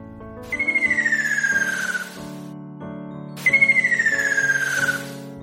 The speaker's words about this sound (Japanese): 今までに聞いたことのない鳥の鳴き声が聞こえてきたのです。